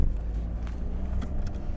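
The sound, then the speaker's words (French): A steady, low road rumble from a car cruising alone along an empty motorway through desolate countryside under a blue sky, with a constant droning hum and faint tyre hiss throughout, with no talking. “La voiture ne se rend compte de rien, pourtant elle est seule sur l'autoroute, seule sur le désert.”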